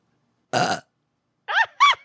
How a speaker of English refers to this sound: I wish I could burp on command like you guys. I can't. It doesn't work. I wish I could burp on command.